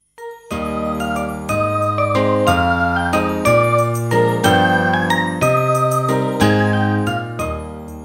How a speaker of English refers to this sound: The day becomes darker and foggier. The bells of the church are ringing loudly.